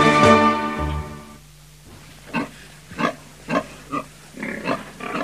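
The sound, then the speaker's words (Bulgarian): A pig squeals loudly at first, then gives a series of short, snuffling grunts in an irregular rhythm, with no talking; the pig has stopped in the middle of a road while being led to town. “Но защо спря това прасе?”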